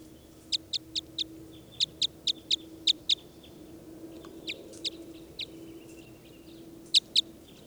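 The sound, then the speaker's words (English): A bird, recorded as bird 396, calls with a quick run of eight sharp, high-pitched notes, then pauses and gives a few scattered calls, all over a faint, steady low hum. No one speaks. “Start recording bird 396.”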